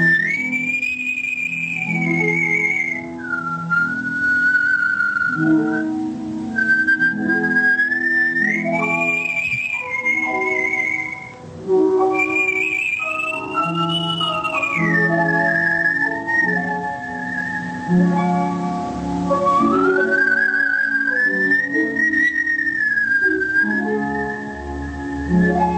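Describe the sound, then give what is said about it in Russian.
A performer whistles the Adagio from Swan Lake, a slow, lyrical melody with long sustained notes and smooth glides, in artistic whistling carried clearly over a steady instrumental accompaniment throughout, with no talking. “Прозвучало «Адажио из Лебединого озера», художественный свист и аккомпанемент Олега Башняковича.”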